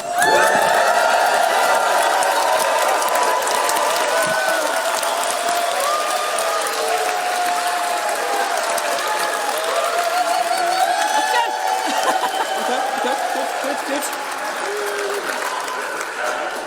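An audience cheers and applauds a contestant loudly and continuously, dense clapping mixed with whoops and shouts that hold steady for the whole stretch before easing slightly at the end.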